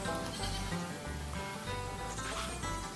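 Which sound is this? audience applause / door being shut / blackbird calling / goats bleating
goats bleating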